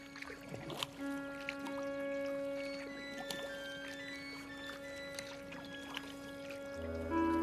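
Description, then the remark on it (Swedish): Soft water lapping and sloshing against a small boat, gentle splashes coming and going over a steady, quiet tonal drone; no one speaks. “Det enda som hördes var vattnet som då och då skvalpade mot båten.”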